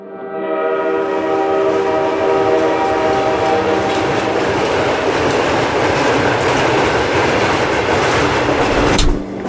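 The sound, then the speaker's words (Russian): A train passes through Kamen-na-Obi, a steady loud roar of wheels with rhythmic clatter, its horn sounding a sustained tone early on before the noise fades slightly at the end. “С того времени через Камень на Оби с запада на восток, с востока на запад переправным потоком идут поезда – грузовые и пассажирские.”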